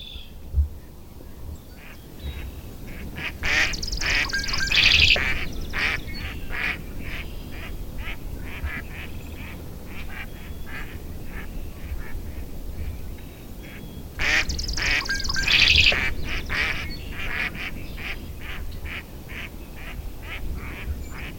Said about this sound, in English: Can't help but giggle a little every time I hear a mallard. This duck really does quack. Keep in mind though, only the females quack.